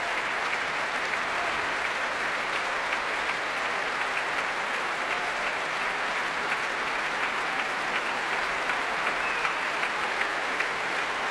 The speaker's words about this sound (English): And applause for the leader